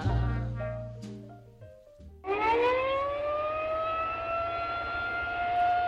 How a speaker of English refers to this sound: Tornado warning sirens are a key part of Severe Weather Awareness Week activities across the country.